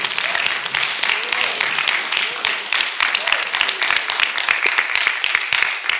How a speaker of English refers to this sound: Amen. Amen. Give him a big hand clap and thank him tonight.